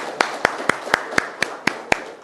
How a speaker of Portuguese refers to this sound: E uma salva de palmas para vocês mesmo, né? Estão presentes aí.